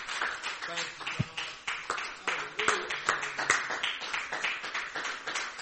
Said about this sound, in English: Why don't you clap your hands to the Lord one more time as you being seated.